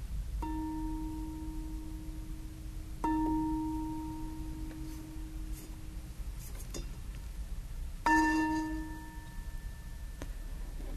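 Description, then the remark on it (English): A meditation bell with something touching it is struck three times at uneven intervals, each strike leaving a steady, slightly muffled low tone with faint higher overtones that slowly fade. A softer tap follows near the end. “The bell, poor bell, is a little, it has something touching it. It doesn't quite sound as resonant as it often does.”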